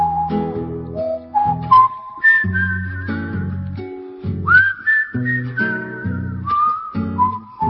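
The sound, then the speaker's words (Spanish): Someone whistles a lively, clear melody while strumming a guitar (viola), the whistled notes gliding and sustaining, with no talking. “Pero sí para silbarte algo y tocar un poquito la viola.”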